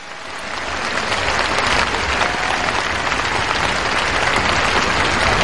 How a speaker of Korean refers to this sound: 여러분 다시 한번 큰 박수 부탁드립니다.